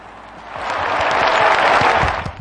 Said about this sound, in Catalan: Anem a per els Grammys. Aplausito. Vale. Aplaudiment, perdó.